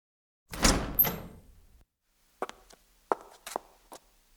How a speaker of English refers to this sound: The noise came from the room. Suddenly, the door opened.